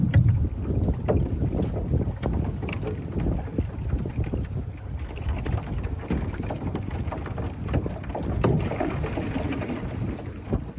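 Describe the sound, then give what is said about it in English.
Small pieces of ice knock and tick irregularly against an aluminum boat hull over a steady wash of moving water and rumbling wind on a cloudy, very cold day in June, with no voices. “So some of my favorite sounds that I hear are the aluminum boat, and then you hear little pieces of ice just hitting against the boat.”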